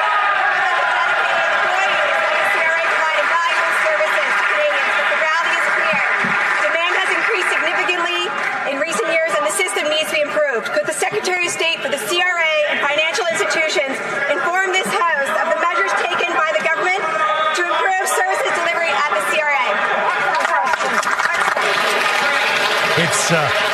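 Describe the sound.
A dense, steady roar of applause and cheering in parliament, mostly from the Conservatives, loud and continuous throughout, with overlapping shouting and cheering voices mixed with clapping.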